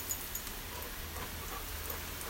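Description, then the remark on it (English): A steady hiss of water spraying from a hose fitted with a sprinkler attachment, squirted up into the air for a dog to catch on a hot day, with droplets pattering down like light rain throughout, and no one speaking. “Squirts it up in the air so he catches it.”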